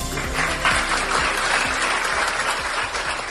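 Sustained applause from a large crowd bidding farewell to a 41-year-old Civil Guard officer from Gijón as he leaves a hospital in Vigo after nine months there, a dense, steady wash of many hands clapping at once, fairly loud throughout with no voices standing out.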